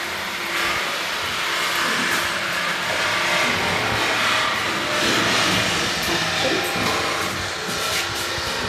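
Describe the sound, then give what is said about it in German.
A passenger elevator running, a steady mechanical rumble and whir with a hissy, airy wash on top, holding an even loudness throughout without pauses or speech. “Das ist der Personenaufzug.”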